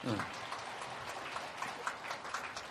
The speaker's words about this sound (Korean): 박수로 환영하시겠고요.